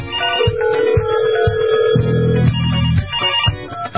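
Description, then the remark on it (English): A loud electronic phone ringtone plays for an incoming call from California, a melodic jingle of sustained tones over a steady beat pulsing about twice a second, with no voices. “Well, we got a call coming through, and I think this is appropriate for Dr.”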